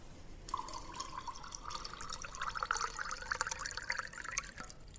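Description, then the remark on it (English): Water pours steadily into a glass of arak for several seconds, a continuous splashing trickle whose pitch climbs as the glass fills. No one speaks. “I mean, I know why you want to add the water after the arak, because of this.”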